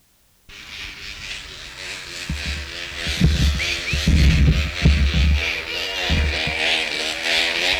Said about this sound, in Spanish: ¿Qué es lo que suena ahí? Ah, el plástico ese. Era como una moto eso.